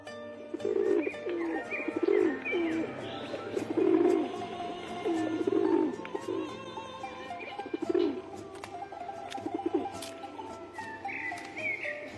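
Several pigeons coo in a steady, repeating rhythm as they are given grain, their soft throaty calls clear, with light rustling and faint higher chirps in the background.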